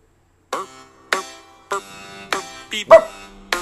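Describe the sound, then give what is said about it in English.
A dog barks repeatedly, about six sharp barks at a fairly steady pace, with one quick double bark near the end and no one talking. “Even the dog hates this.”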